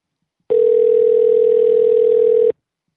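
One steady, mid-pitched telephone ring tone from an outgoing call to ask about a skate park's membership tiers sounds for about two seconds, loud and unbroken, then cuts off into silence. Nobody speaks.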